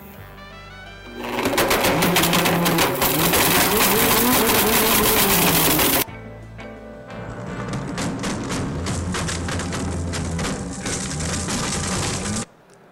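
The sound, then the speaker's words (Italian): A blender roars to life on its smoothie button and grinds an iPhone in two loud, harsh stretches, a dense crunching whir that shifts pitch midway, then cuts off abruptly. “lui ha promosso il suo frullatore facendolo vedere in azione, facendo vedere che frulla di tutto, compreso l'iPhone”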